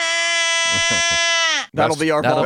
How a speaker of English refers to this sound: A dying sheep. Where'd you get that? That is you yawning last summer.